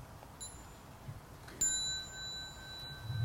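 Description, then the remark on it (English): A small bell rings once with a bright, clear strike at a Sangha gathering, its high metallic tone lingering and slowly fading over a soft low background rumble. “When the children hear the small bell, they may like to stand up and bow to the Sangha before they go.”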